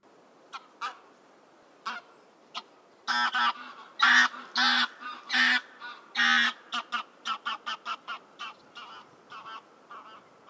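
A goose honks repeatedly and loudly, starting with a few scattered calls, then a burst of long harsh honks followed by a rapid string of shorter ones.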